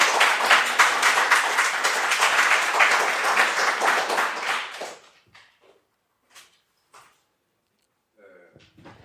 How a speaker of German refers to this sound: Dann Applaus und dann Fragen.